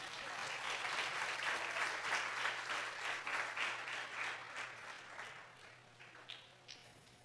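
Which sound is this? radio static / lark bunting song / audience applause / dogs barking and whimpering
audience applause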